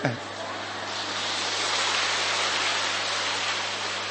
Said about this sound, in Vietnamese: Cho một tràng pháo tay hoan hô bé.